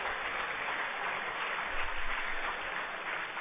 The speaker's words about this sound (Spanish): Así pues, un aplauso para todos ustedes porque se lo merecen a lo largo de todos estos años.